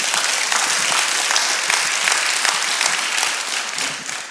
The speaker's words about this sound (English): Good morning. Happy Mother's Day to all the moms. Come on, you guys give our women a great big hand clap today.